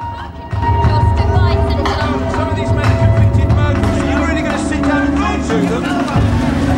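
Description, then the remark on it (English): A car engine rumbles along at low speed as it is driven towards the gates of the Maze prison in Northern Ireland, while a crowd of journalists swarms around it, talking and calling out over one another in a dense, loud babble that continues throughout. “Journalists swarm round Mo's car as she's driven towards the gates of the maze prison.”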